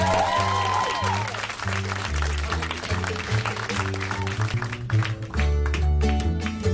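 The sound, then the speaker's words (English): Sustained audience applause at the Borders bookshop on Oxford Street, a dense steady clatter of clapping for the programme's producer, runs throughout over a live bass line of stepping low notes, swelling slightly louder toward the end. “A round of applause for Nigel.”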